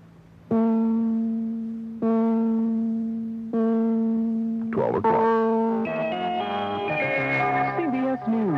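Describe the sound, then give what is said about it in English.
A radio time check from New York: four steady, buzzy electronic time-signal tones, each about a second and a half long and evenly spaced, the fourth marking the exact time and running straight into a brief, bright musical jingle. “Set your time to WCBS. Four tones will follow. The fourth and final tone marks the exact time.”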